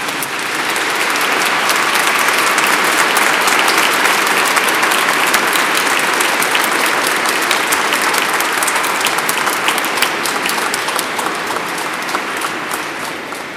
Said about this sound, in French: On est tellement heureux aussi de savoir que vous êtes là. Oui, on peut les applaudir si on veut.